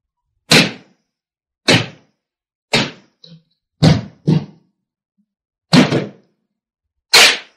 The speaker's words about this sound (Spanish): Vamos, derriben la puerta. ¿A qué esperan?